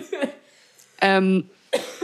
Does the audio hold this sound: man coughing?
yes